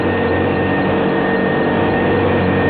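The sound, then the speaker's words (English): A vacuum cleaner runs with a steady, loud whirring drone and a constant motor hum, unchanging throughout with no voices. “Sound of a clock ticking and a vacuum cleaner.”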